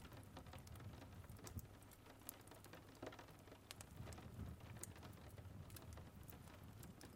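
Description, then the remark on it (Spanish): Steady rain on a cold day patters against a window's glass, small individual drops ticking sharply over a soft, continuous hiss and low rumble; quiet, with no voices. “Y después te acercas a observar la lluvia a través del frío cristal, mientras observas cómo las pequeñas gotas golpean la ventana.”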